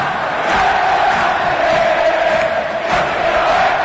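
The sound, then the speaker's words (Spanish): A huge stadium crowd of Cerro Porteño fans roars after Federico Carrillo's goal puts Cerro Porteño ahead two goals to one, a dense, unbroken wall of cheering and shouting that holds at a steady, loud level with brief swells, and no single voice stands out. “¡Con este grito infernal en la una!”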